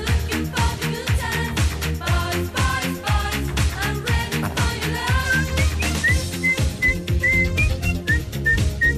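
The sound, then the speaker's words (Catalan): A high, thin whistled melody line imitating a synthesizer line rises and repeats over a loud, steady dance-pop backing with punchy drums and bass, continuing without pause throughout. “gran línia de sintetitzador que he xiulat.”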